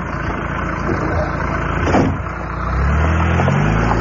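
A car engine rumbles steadily, then revs up with a rising low growl as the car pulls away after stopping short of the old BCN broadcast tower. No one speaks.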